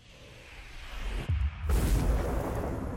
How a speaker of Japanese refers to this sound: やっぱり爆発すんねんな。